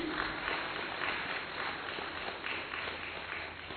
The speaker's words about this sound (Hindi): जोरदार तालियां बजाएं।